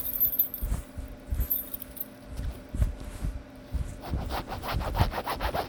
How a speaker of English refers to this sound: Here, I have my keys. Let me try.